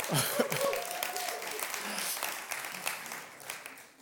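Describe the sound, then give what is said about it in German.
A crowd applauds with dense, crackling clapping that holds steady for about four seconds, with a few brief voices and cheers mixed in early on before it begins to taper off. “Ich liebe es, Applaus zu haben.”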